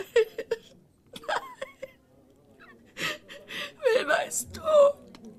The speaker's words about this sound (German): Nicht weinen, …. Hör bitte auf zu weinen.